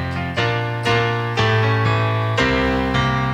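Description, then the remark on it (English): A short, bright quiz show jingle with strong sustained chords changing in a bouncy rhythm, loud and full, with no talking over it. “Okay, so can we hear the whole jingle, please?”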